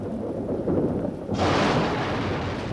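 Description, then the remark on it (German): A deep, rumbling roll of thunder following a lightning flash builds and then breaks into a loud, broad crash that keeps roaring steadily, heavy, with no voices. “Ruhe, ein Blitz!”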